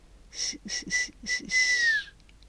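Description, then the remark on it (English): A faint, airy teeth-only whistle sounds in response among eerie dead trees at night: several short breathy bursts in quick succession, then a longer note that slides downward and fades. No one speaks. “Then a faint whistle sounded in response. It was a teeth-only whistle, not a full-fledged pucker-up-and-blow one.”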